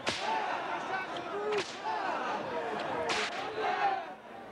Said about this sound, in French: La peine habituelle est de 50 coups de fouet. Allez !